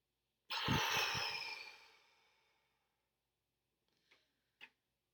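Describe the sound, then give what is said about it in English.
A single long, airy breath during a breathing exercise, loud at first and slowly fading over about two seconds, followed by silence and two soft clicks. “And one more. Inhale in. Hold it.”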